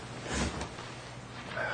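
A single short, breathy burst of noise, like a muffled sneeze, stands out briefly against a quiet background hiss, followed by a faint second puff.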